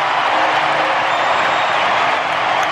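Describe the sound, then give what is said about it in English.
A roaring baseball stadium crowd cheers loudly and continuously after Kyle Schwarber's grand slam puts the Phillies in the lead, a dense wall of voices holding steady at full volume without a break. “I got to tell you, if the Phillies, and listen to that crowd. Listen to that crowd.”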